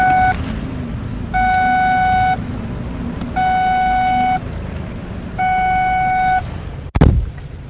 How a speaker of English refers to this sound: Me opening the door so I could see how close I was to the curb, and car warning me, oh, you're driving with the door open. I know I'm driving with the door open.